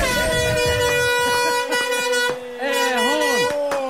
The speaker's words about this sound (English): Air horn. Look at that for a horn.